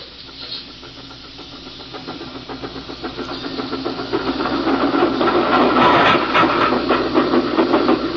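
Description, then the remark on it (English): Steam train number 29, pulling three cars downgrade toward Beekman, rushes past a siding with rapid, rhythmic chuffing and a steady hiss, swelling louder over the first few seconds and staying loud to the end. No voices. “We'll wait here on the siding. Let number 29 through.”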